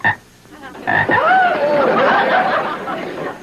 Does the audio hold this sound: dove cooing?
no